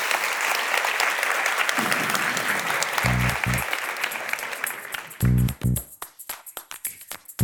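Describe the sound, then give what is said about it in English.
Audience applause for Sophie Gilbert: a dense, steady wash of many hands clapping, broken by a couple of short voiced cheers, then thinning out to a few scattered individual claps. “Can we please give a round of applause to Sophie Gilbert?”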